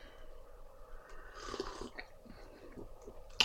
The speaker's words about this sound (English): Let me get a sip of my tea in my new Greer Ferris mug.